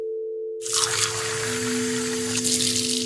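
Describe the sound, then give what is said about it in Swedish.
After a brief silence, water gushes steadily into a glass, a continuous bright splashing hiss with a faint ringing tone underneath that lasts to the end. “Du fyller ett glas med vatten och slänger ner en brustablett mot huvudvärken.”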